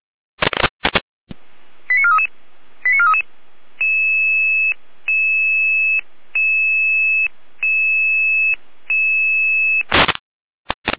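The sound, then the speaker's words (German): Radio pager alerting tones as the Jena dispatch in Germany alerts the Red Cross Saalfeld crew to an ambulance call: a quick run of short beeps, then five evenly spaced, steady two-pitch tone blasts, framed by bursts of radio static at the start and end. “Ja, mit der Alarmierung.”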